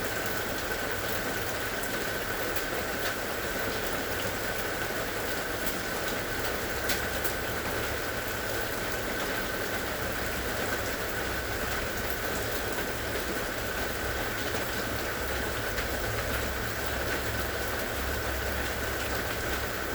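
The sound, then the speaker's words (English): Steady rain patters on a hard surface, a dense continuous hiss of drops with a low rumble underneath, even and unbroken throughout with no voices. “Deep within your heart, you are listening gently and softly to the sound of the rain.”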